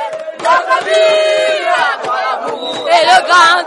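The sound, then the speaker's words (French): A large street crowd at the place called Poste Central, in the city centre, sings the refrain of Cameroon's national anthem loudly and fervently, many voices merging into sustained, wavering melodic lines with shouts rising over the chorus, the sound steady and full throughout. “Le refrain de l'hymne national du Cameroun est entonné avec hystérie.”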